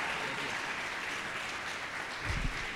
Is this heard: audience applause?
yes